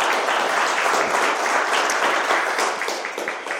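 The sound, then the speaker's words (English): An audience breaks into a round of applause, a dense, steady wash of many hands clapping at a fairly loud level, easing off slightly toward the end. “Show me by a round of applause.”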